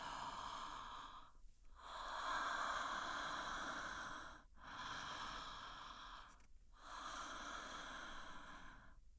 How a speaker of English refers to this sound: Okay, so encouraging the recipient of this massage to start inhaling and exhaling, having a deeper, fuller breath than she normally would.